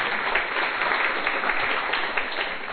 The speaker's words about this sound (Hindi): आज के इस वर्कशॉप में आप सभी का बहुत बहुत स्वागत है, स्वागत है, स्वागत है। अपने लिए तालियां बजा सकते हैं।